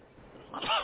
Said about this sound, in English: Bless you.